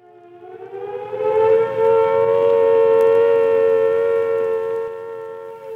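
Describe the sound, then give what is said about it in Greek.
An air raid alarm siren wails one Monday morning with a steady, sustained tone, rising gently at the start, then holding loud and level for several seconds before easing slightly at the end. No voices are heard. “Όταν το πρωί εκείνης της Δευτέρας ακούσαμε τις σιρήνες, δεν πιστεύαμε στα αυτιά μας.”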